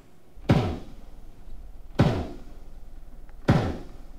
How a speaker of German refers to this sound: Eine Rammschall war das, aus 3 Kilometer Entfernung.